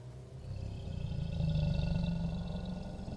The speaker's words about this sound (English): Something dark and angry awakens inside of you. Its roar echoes inside your skull as it demands blood and broken things.